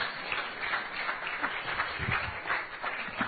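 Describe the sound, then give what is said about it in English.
A crowd applauds three elders as they come up to join a demonstration, a dense, steady patter of many hands clapping at once, sustained at an even level without any voices rising above it. “So give them a round of applause as our three elders come up and join me.”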